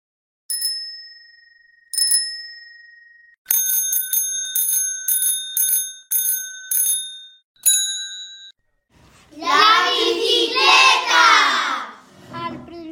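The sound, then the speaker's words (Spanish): A bicycle bell gives two single bright dings, then a quick run of repeated rings and one more, before a loud burst of excited shouting voices. “Dos ruedas tengo y no soy un coche. Si me das pedales, corro día y noche.”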